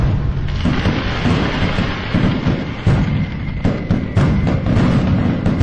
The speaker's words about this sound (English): some celebratory fireworks for that news.